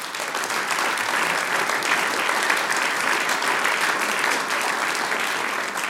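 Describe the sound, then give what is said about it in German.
An audience in the Volkshaus in Bernbach applauds steadily at a show recorded for radio, a dense wash of many hands clapping at an even, sustained loudness for about six seconds, with no break and no voices standing out. “Sie haben uns zugehört, zugelost und fleißig Applaus gespendet.”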